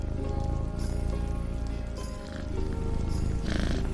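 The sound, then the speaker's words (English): Two cats purring, a steady, continuous low rumble that rises and falls slightly without a break, with no talking over it. “A hug sounds like two purring cats.”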